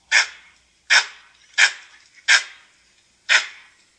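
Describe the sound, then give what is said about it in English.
A langur monkey's alarm call: five sharp, harsh bark-like cries at slightly uneven intervals, loud, each cutting off quickly, with no voices or other sounds around them. “and if you guys want to hear a langur call, this is an example of like a more of an alarm call.”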